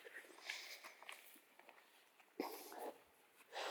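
A dog, Lottie, pants in quick, breathy puffs that come in uneven bursts while walking up a hill outdoors on a warm summer's late morning with a gentle breeze among wildflowers. Soft footsteps crunch along, growing louder and heavier toward the end.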